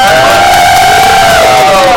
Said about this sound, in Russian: Музыканты выходят на сцену. И вы можете слышать этот сумасшедший вой толпы.